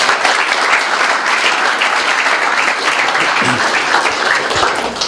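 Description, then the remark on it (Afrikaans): A crowd applauds steadily, dense overlapping claps forming a loud, even wash of sound that holds at the same level for the whole stretch without pausing. “Dankie, kom ons gee net vir hulle 'n hande klap, julle.”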